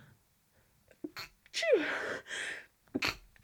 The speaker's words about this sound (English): I'm going to sneeze.